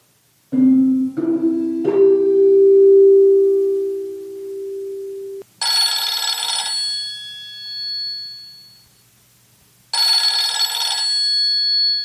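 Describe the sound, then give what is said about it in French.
As someone phones a friend, a few stepped dialing beeps and a steady tone give way to a telephone ringing, two bright, trilling rings with a pause between them, clear with no voices. “Julie va chez son ami Pierre. Elle lui téléphone avant.”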